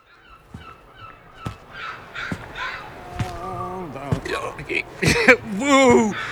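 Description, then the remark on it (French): A seagull calls outside in a series of harsh, wavering cries that grow louder toward the end, mixed with a few sharp knocking thuds. “Une mouette n'a toujours pas trouvé l'horizon.”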